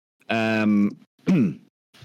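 A voice imitates a dragon roaring and shouting something in Draconic: a loud, rough, drawn-out growl, then a second shorter roar that sweeps downward in pitch, ending with a faint breathy sound.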